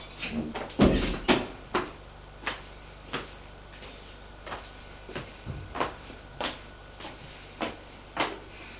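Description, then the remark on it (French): A heavy rattle and clunk as a bedroom door is unlatched and pushed open, followed by a steady series of sharp, evenly spaced clicks or taps. No one speaks. “Laurent ouvre une porte.”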